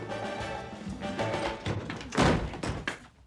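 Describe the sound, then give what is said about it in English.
Two people crash through the door of an apartment on their way to bed: a jumble of heavy thuds and bumps, with one loud crashing bang near the end followed by a few more scattered knocks. “That last sound, by the way, is the two of them crashing through the door of her apartment on their way to bed.”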